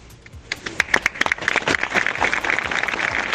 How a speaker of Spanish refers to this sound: Unos minutos de silencio que acababan en este estruendoso aplauso.